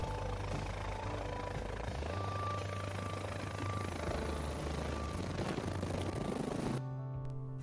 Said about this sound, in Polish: Czy śmigłowiec musi lądować pionowo? Niekoniecznie. Zobaczcie na umiejętności pilota National Geographic.